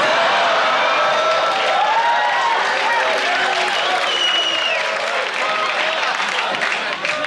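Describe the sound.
A crowd applauds steadily and loudly for several seconds, the dense clapping mixed with scattered cheers and murmuring voices, holding at an even level throughout.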